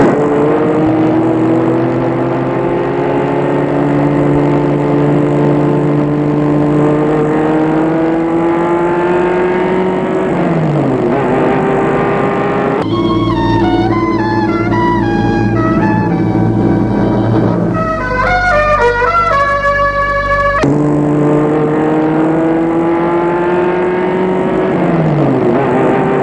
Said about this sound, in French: La voiture s'arrête devant une villa blanche de 2 étages, style moderne.